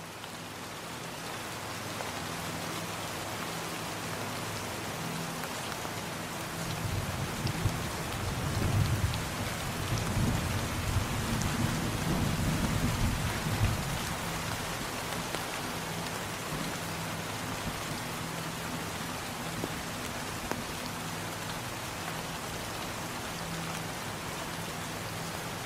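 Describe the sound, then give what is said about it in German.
Steady rain hisses and patters continuously on a surface, with a soft low rumble swelling briefly in the middle before the downpour settles back to an even, fairly constant wash. “Und als der Regen ganz allmählich schwächer wird, bleibt etwas in der Luft zurück.”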